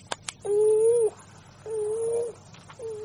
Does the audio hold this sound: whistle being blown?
no